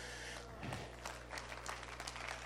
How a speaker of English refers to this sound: I wish we'd give him a little bit of a hand clap.